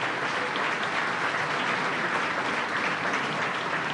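Sustained applause from an audience for the clinical staff and employees of Hospital Sírio-Libanês, a dense wash of many hands clapping at a steady, even level throughout, with no voices standing out.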